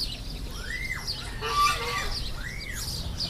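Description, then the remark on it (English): Many ducks call out a few times at a farm, with two rising-and-falling honks and a harsher squawk between them, over steady outdoor background noise. “Lots of ducks.”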